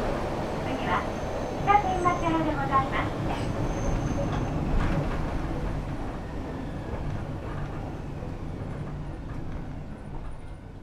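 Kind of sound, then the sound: vehicle, train running on rails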